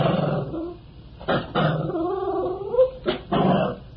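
A female puppy growls low and breaks into drawn-out, wavering whimpers as a new collar and leash are put on her, with several short bursts of complaint over a few seconds and no talking.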